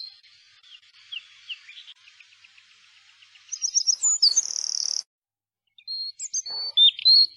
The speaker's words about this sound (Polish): Dziecko lubiło wsłuchiwać się w szum drzew i śpiew ptaków.